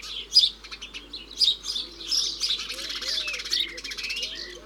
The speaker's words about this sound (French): Ces moineaux domestiques vivent toujours en groupe et toujours près des hommes. Au point que quand un village perd ses habitants, les moineaux s'en vont.